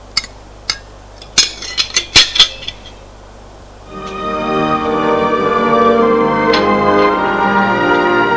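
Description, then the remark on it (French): A quick run of sharp metallic and china clinks as a mother puts the supper leftovers, two plates and a set of cutlery into a saucepan, then a steady droning tone takes over with a few faint clinks. “La mère met dans une casserole les restes du souper, deux assiettes et un couvert.”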